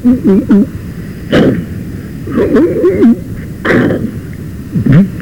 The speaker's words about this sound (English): So they began battering the second door.